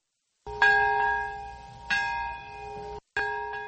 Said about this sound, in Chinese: 在原子弹70年前爆炸的那一刻，长崎和平公园响起钟声。